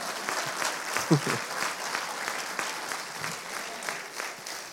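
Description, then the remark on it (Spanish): An audience applauds, a steady, dense patter of many hands clapping for several seconds at moderate loudness, with a brief voice breaking through early on. “No tienen que aplaudir si no quieren, pero esta es palabra de Dios.”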